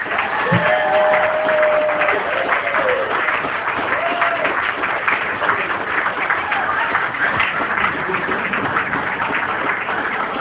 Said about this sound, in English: And please continue your applause for the parents of the groom,